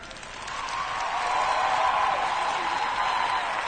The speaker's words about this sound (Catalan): La vostra missió és recolzar amb aquesta gent que porta tant de temps preparant-ho que, encara que no t'ho creguis, però en 2 anys no ha sigut suficient. Aplaudiments de la part esquerra!